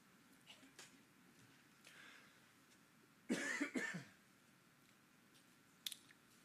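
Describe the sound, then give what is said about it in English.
A single harsh cough bursts out of a quiet background, a quick double hack lasting under a second, followed by a faint click a moment later. “I hope my cough doesn't wake any of you up.”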